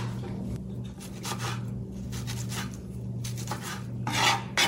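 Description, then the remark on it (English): A knife slices through tomatoes on a cutting board, chopping them into small pieces for a summer dish, in a run of irregular scraping strokes, with a steady low hum underneath and no one talking. “Right now she's chopping the tomatoes.”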